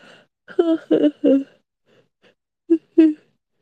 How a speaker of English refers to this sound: See, I'm yawning. Oh my god, it's working.